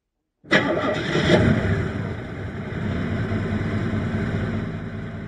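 vehicle, car engine starting

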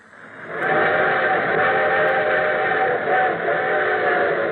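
vehicle, train approaching

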